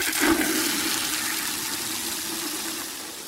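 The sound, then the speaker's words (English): Water gushes and pours steadily for a few seconds onto a flower seed just planted in a hole in a garden, a broad hissing splash that starts strongest and slowly tapers off, with no voices over it. “Give it some water.”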